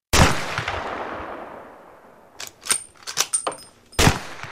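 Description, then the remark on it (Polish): A single loud shot from a hunting gun cracks sharply and rolls away in a long, fading echo, followed by a few quieter sharp cracks and thumps, then another loud bang near the end. “To huknęło. To walnęło. Mało się nie wywróciłem.”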